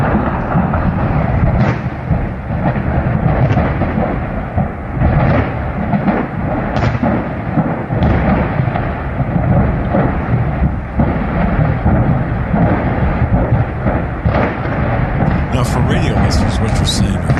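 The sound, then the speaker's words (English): Repeated heavy explosions of nitrogen tanks at an industrial facility, recorded while driving down the road about a quarter to half mile away, boom and crackle in a dense, continuous rumble, with sharp blasts every second or two and faint indistinct voices underneath. “Explosions, excuse me, nitrogen tanks in this facility.”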